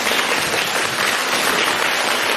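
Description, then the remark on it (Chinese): A crowd applauds steadily to thank Lu Taizhang (卢台长) for reading totems, a dense wash of many hands clapping at an even, loud level for a couple of seconds, with no voices over it. “让我们用掌声感谢卢台长为我们看图腾。”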